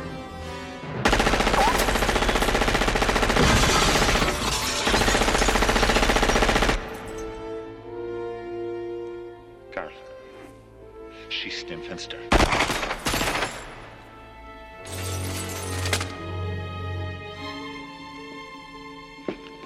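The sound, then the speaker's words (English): Automatic rifle gunfire roars in a long, rapid, continuous burst, loud, followed later by a few shorter bursts, with sustained musical tones carrying on underneath. John McClane firing a rifle with a 30-round magazine. “Now, violating the laws of physics and the conservation of mass in the state of California is not explicitly illegal, but I just want to point out that John McClane has fired over 160 rounds out of a 30-round mag at this point.”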